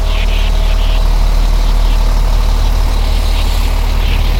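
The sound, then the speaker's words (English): A large recycling truck's engine idles with a steady, loud low rumble and rhythmic diesel throb, joined by faint hissing and clatter higher up, with no one talking. “There's the recycle truck right there.”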